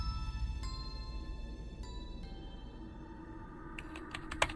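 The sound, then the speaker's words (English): Scattered keyboard clicks of someone typing with one hand from a hospital bed, over a low sustained musical drone: a few isolated keystrokes early on, then a quicker run of crisp taps near the end, fairly quiet. “I'm typing this from a hospital bed with one good hand and bandages across my face.”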